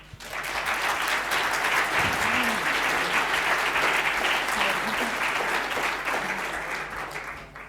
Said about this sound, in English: So give her a warm round of applause.